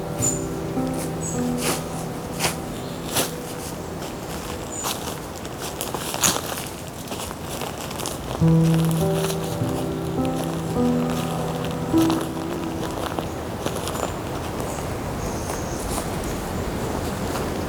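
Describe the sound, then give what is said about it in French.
Steady footsteps crunch along a forest trail strewn with dry maritime pine needles, at an even walking pace, over a soft sustained tonal background with no voices. “Les oiseaux, la piste qui croustille avec les aiguilles.”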